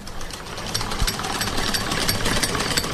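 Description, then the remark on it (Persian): A sewing machine runs steadily for the whole stretch, a fast, even mechanical clatter with a harsh, buzzy edge that stays at a fairly constant loudness. No one speaks. “نام خدای، ډیر ښه ماشین دی، کارخانه یې معتبره ده.”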